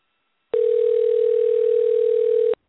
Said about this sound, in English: I don't know why our phone is ringing